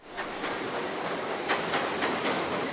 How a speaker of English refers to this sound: With the almost constant roar of the 7 train above them, dozens of day laborers wait single file on the sidewalk of busy Roosevelt Avenue in Queens.